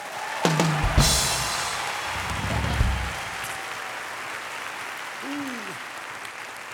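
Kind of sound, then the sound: crowd, audience clapping loudly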